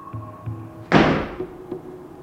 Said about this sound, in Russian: Дверь захлопнулась